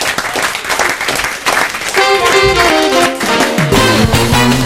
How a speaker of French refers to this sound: On vous applaudit tous les deux